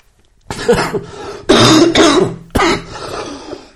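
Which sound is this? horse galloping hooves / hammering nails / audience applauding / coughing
coughing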